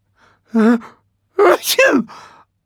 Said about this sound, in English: I can't stop sneezing.